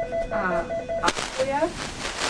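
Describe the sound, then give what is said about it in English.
A phone rings with a quick series of short electronic tone pulses, then a sharp click, while nearby voices talk over it. “Actually, I'll stop ringing in a minute and I'll turn it off.”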